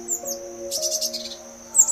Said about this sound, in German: Die Blaumeise ist zurück. Und schon spürst du, wie ihr Gesang dir durch Mark und Bein geht.